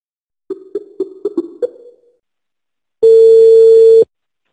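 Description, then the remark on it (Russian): A telephone rings with a quick burst of six short electronic chirps, then after a pause a loud, steady one-second tone sounds. No one speaks. “Телефон.”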